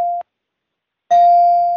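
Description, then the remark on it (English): A bright bell dings twice: a short ring that cuts off quickly, then after a brief silence a louder, clear ding that rings on steadily. No one speaks. “Wheel, bell me, please.”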